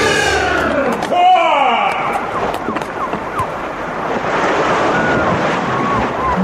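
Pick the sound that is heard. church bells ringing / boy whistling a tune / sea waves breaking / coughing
sea waves breaking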